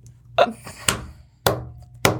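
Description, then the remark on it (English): A series of four sharp, heavy thuds of someone banging on a table, spaced unevenly about half a second apart, fairly loud, with a low hum beneath. “I think I just went deaf from you banging on the table.”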